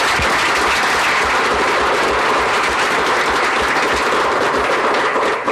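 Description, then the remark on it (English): Sustained audience applause in Vancouver's Council Chambers for the Pride Festival president, vice president and others, a dense wash of many hands clapping steadily at a loud, even level for several seconds with no voices over it. “A big round of applause to all of them.”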